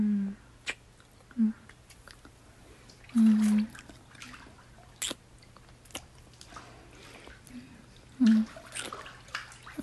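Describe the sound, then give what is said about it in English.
Water sloshes and splashes in a bathtub in short, irregular bursts, moderately loud, with a few soft low murmurs between the splashes, as a person is being bathed. “Okay, I guess we should get you rinsed off and out of here before the water gets too cold.”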